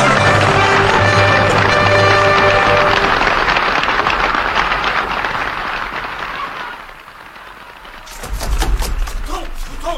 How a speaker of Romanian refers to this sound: Vino pe scenă, regele aplaudă. Auzi, auzi.